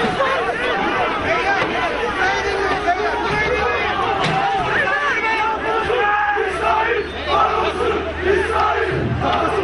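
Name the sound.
street protesters chanting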